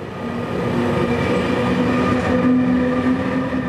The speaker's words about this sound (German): Drüben auf Gleis 2 fährt der Zug ab.